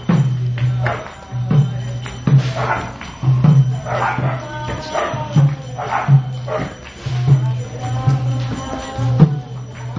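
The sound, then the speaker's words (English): Dogs in Vrindavan bark and yowl in rising, wavering cries, joining in with people's music over a steady low drone and a regular rhythmic beat, their voices blending with the ongoing music throughout. “Dogs in Vrindavan singing along with these guys come and bark and people are doing something, dogs want to take part, they always come along, right?”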